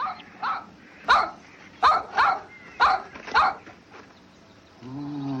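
A dog in a film scene barks about six times in an uneven rhythm, fairly loud, then lets out a brief, tonal whimpering whine at the end.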